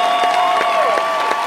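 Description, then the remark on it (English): Loud, sustained concert applause from a large crowd at the Santa Barbara Bowl as the performer walks out alone and takes a bow, a steady wash of clapping with high cheering and whistle-like tones held over it throughout, and no talking. “Applauding the audience.”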